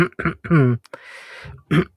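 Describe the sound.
A hoarse bout of coughing and throat clearing: a few voiced, rough bursts, a breathy rasping exhale, then one more sharp cough before it fades out.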